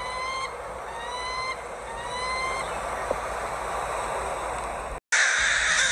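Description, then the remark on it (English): Crows caw raucously three times, about a second apart, over a steady wash of outdoor noise, before the sound cuts abruptly to a brighter hiss. “And the choir of crows never stopped ringing out their raucous call.”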